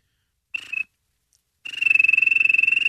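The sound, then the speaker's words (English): Someone imitates a basketball referee's whistle with their mouth: a short shrill blast, a brief pause, then a longer, loud trilling whistle with a rapid warble, all high-pitched and steady, with no talking. “You know, one of my favorite things I can do, it's great at a basketball game, the ref whistle.”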